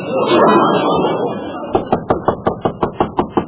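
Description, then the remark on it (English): Loud, rapid knocking on an apartment door by the landlady, about ten sharp raps in a steady rhythm, following a stretch of murmuring voices and background noise. “Only one person in an apartment house has got the nerve to knock like that, the landlady.”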